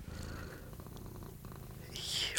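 A cat with blue-black fur purrs steadily while being petted, a low continuous rumble with a soft rhythmic pulse, growing slightly louder toward the end with a faint rustle of fur being stroked.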